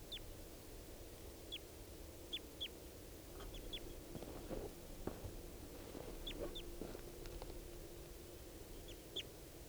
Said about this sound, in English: More wild birds coming in. And the male here, who I've got down, is mottled with yellow. Yellow and red. And he seems like a full adult. So recording these birds I've got here.